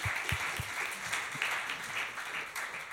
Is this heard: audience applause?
yes